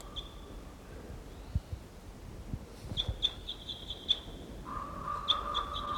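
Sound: wild bird call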